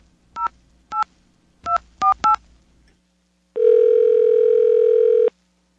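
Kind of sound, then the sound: signal or alarm, telephone dialing tones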